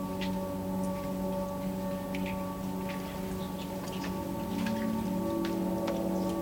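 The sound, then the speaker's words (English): Rain falls outside at night, heard from a porch, as scattered, irregular drips and taps over a steady low electrical hum that runs throughout. No one speaks. “It's raining.”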